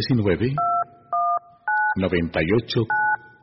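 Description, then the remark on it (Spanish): Four clear telephone keypad dialing tones, each a steady dual-pitched beep lasting about a quarter second, alternate with short bursts of a person talking at a similar loudness. “Nuestro teléfono espera su llamada.”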